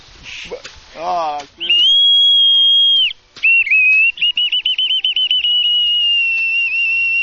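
A bird-call whistle, used to call birds down to a catching area, blown clumsily by a novice bamboo farmer: after a brief voice, a loud, steady shrill note holds for over a second, then breaks into a long wavering, stuttering warble of rapid uneven pulses.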